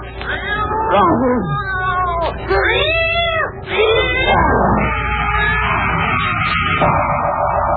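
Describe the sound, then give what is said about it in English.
A cat meows and yowls loudly in a series of drawn-out, wavering cries, rising and falling in pitch over several seconds with a steady low hum underneath. “Here, kitty. Don't go away, kitty.”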